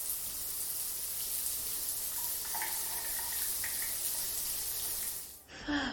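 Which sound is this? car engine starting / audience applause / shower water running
shower water running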